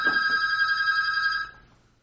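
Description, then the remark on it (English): A telephone rings with an incoming call: one steady, bright electronic ring lasting about a second and a half before cutting off. It is clear, with no one talking. “We're having a phone call come in.”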